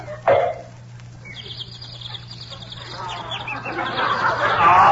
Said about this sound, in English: But I don't hear no birds. Turn your head a little bit more and you will.